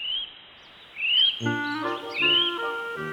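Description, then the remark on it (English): Calls of a kiwi, New Zealand's national bird: a few shrill, rising whistles repeated at intervals, clear, with steady tonal notes joining underneath partway through. No one speaks. “Listen and read. Kiwi bird.”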